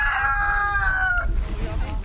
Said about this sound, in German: Aber eins der Hühner, beziehungsweise den Hahn, habt ihr auch vorhin schon mal gehört. Vielleicht erinnert ihr euch.